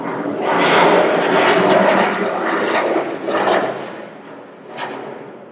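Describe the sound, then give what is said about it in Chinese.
A loud, rushing roar of a military jet passing overhead fills the air, swelling quickly, holding steady for a few seconds, then gradually fading away. “其实没两天就死掉了，军机飞过。”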